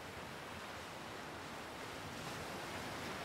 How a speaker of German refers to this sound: Du hörst das vertraute Rauschen des Meeres und diese Höhle scheint dich magisch anzuziehen.